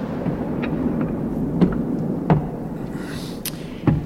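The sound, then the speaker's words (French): Low, continuous rumbling of storm thunder rolls through the whole stretch, steady and heavy, with a few sharp cracks or knocks breaking through near the middle and end. No voices. “Ça recommence. Ouais, ça c'était sûr. Avec cette tempête.”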